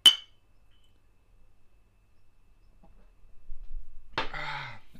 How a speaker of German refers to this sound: Deswegen sollten wir vielleicht mal anstoßen, oder? Ja, können wir machen.